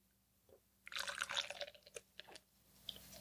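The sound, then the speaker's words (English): Beer, a pils lager, pours into a Pliny glass in a short burst of splashing and fizzing lasting about a second and a half, then trails off into a few scattered drips and bubbles. “Pour into my Pliny glass.”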